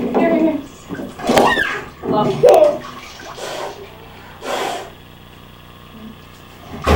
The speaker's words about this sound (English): Hey, that was too much splashing you, sir.